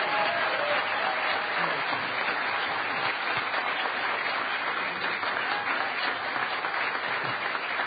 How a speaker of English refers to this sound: Give it up. Give it up. Huge, huge round of applause.